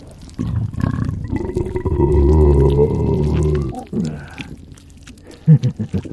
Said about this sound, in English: My belches aren't so nice when you're causing them, are they?